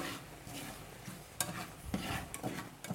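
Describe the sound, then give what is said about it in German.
Boiled cime di rapa (turnip greens) hiss and sizzle steadily in hot oil with garlic, a broad crackling wash broken by a few sharp scraping clatters as they are stirred in the pan. “Das heißt, jetzt kommen die Cime, die Rabe, die gekochten, kommen jetzt in das Öl.”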